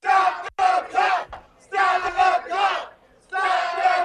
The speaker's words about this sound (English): They're chanting, "Stop the count."